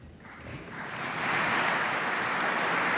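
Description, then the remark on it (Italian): A large crowd breaks into steady applause in the Vatican, concluding Pope Benedict's meeting with the parish priests of Rome; the dense clapping swells louder after the first second and then holds at a full, even roar without any voices. “E con questo applauso si è concluso ieri in Vaticano l'incontro di Papa Benedetto con i parroci di Roma.”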